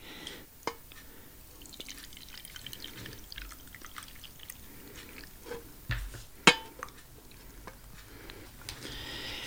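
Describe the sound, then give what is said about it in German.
Coffee is poured steadily into an old cup from Chile, about 45 years old, with soft trickling and a few sharp clinks and drips, fairly quiet, no voices. “Ich dir einen Kaffee einschenken.”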